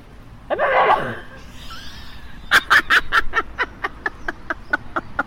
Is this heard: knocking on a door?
no